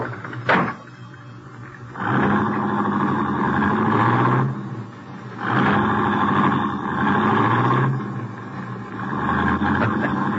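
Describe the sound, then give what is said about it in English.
A sharp click, then a car engine, started with the key left in the ignition and with a casket inside the car, turning over and revving in three loud, drawn-out surges with short dips between, with no one talking. “Key's still in the ignition, too. Yeah, we're in luck. Get in. Drive it out to the farm.”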